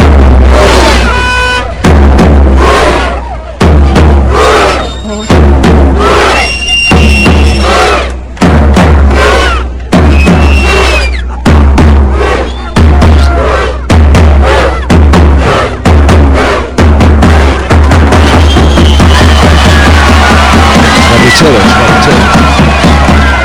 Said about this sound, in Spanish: En la plaza del ayuntamiento. Estaba lleno de noruegos. Claro, es que esta es el grito de guerra futbolístico de, vamos, la... que han puesto de moda.